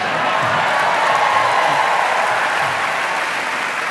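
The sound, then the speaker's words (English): A live audience applauds and cheers in a loud, steady wash of clapping that holds level throughout, with a few scattered shouts mixed into the dense crowd noise. “You're a little quiet there compared to this crowd here.”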